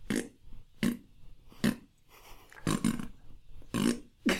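repeated farting

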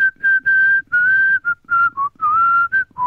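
person whistling

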